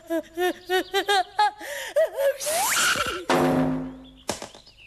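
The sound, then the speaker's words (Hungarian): A sneeze, apparently from an allergy, builds up through a quick run of rhythmic, rising gasps, then breaks into loud, noisy bursts of air, and ends with a short sharp click. “Szédonáta, úgy látszik, allergiás vagyok.”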